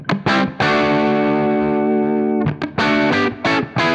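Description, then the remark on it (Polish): An electric guitar played through an amp's normal channel alone, set to 6 of 10: a couple of quick strummed hits, a loud chord left ringing for about two seconds, then a run of short, choppy strums. No one speaks. “Sam normal brzmi tak.”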